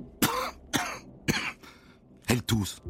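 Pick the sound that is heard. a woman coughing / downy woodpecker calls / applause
a woman coughing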